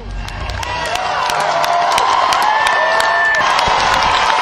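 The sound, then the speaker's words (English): A large concert crowd at the Wild Horse Saloon cheers and applauds loudly and steadily as the performers say goodnight, with scattered whoops and shouts rising above the dense wash of clapping. “saying goodnight here at the Wild Horse Saloon.”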